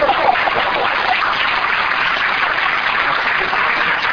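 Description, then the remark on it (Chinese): A crowd claps steadily for about four seconds, a dense, even wash of hand claps at constant loudness with no voices breaking through. “好，我们要掌声鼓励一下吧。”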